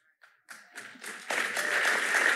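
A church audience breaks into applause that starts scattered and quickly swells into steady, full clapping from many hands, at moderate loudness with no voices over it.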